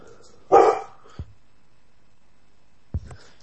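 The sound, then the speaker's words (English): A single loud bark from the speaker's pet dog rings out near the start, followed by a couple of short, quieter thuds or yips with silence in between. “I'm trying to be on the air and I have a dog barking in the background.”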